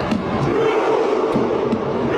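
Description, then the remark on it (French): A dense stadium crowd roars and chants steadily while Norway's team sits on the ground. The crowd in the stands copies their rowing motions, and a man beats a drum, its sharp, loud thumps breaking through at uneven intervals. “Et là, l'équipe norvégienne est assise par terre et regardez, le gars, il y a un tambour.”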